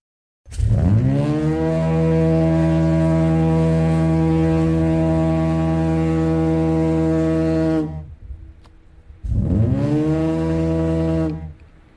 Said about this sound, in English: So when Marconi was here, that is the foghorn he would have heard? Oh, yes. Oh, yeah, in Marconi's time, oh, yes. That's a compressed air.